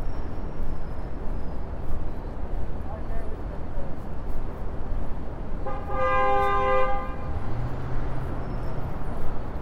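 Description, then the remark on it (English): Steady city street traffic rumble on 47th Street while hailing a cab, with one loud, sustained car horn blast near the middle, followed by a low engine drone rising as a vehicle moves off. Faint voices sit in the background. “Figured, make some money while I'm sitting here in traffic.”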